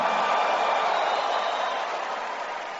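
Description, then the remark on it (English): An audience claps and shouts praise to the Lord together in a dense, steady roar of applause and shouting, holding loud throughout and easing off only slightly at the end. “Somebody give the Lord a big clap and a louder shout of praise.”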